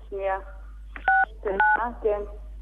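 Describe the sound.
Two short, steady dual-pitch beeps from a mobile phone keypad ring out one after another as keys are pressed during a call (the # key is asked for, then six and nine are called out), interleaved with bits of a voice speaking before, between and after the tones.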